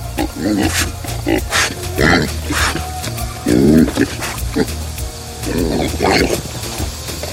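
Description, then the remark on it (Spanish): Several pigs in pens grunt and oink, a steady run of loud, overlapping snorts and squeals rising and falling in short bursts throughout. “Así se fundaron asentamientos humanos como San Francisco, al pie de las lomas y sobre unos corrales de chanchos.”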